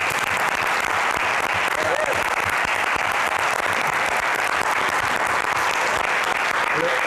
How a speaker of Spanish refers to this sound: Las coreografías las ha hecho María Rovira, que está por aquí, y le pido un aplauso.